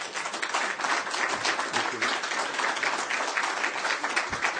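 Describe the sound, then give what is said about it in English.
A large crowd applauds steadily, a dense wash of many hands clapping at an even, sustained loudness for several seconds without pause. “The people of Israel applaud you for it.”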